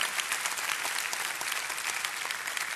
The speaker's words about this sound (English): Come on, man. We're clapping for God's activity in your life. This is his doing.